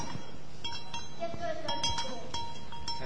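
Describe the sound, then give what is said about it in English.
Several light metallic clinks of a sheep bell, the kind put on the lead sheep of a flock, ring out irregularly over a steady murmur of background noise, with a faint animal bleat midway. “So if you ever hear about a bell sheep, there is a bell that goes on the lead sheep that leads all the other sheep.”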